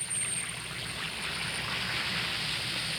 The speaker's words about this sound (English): Drop an Alka-Seltzer tablet or two into a glass of water like this. Now, listen to it fizz.